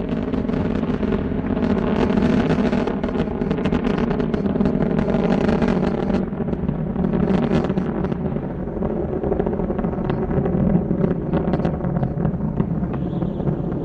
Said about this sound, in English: Engines now throttling down as Endeavour passes through the area of maximum dynamic pressure on the vehicle in the lower atmosphere. Approaching 1 minute into the flight.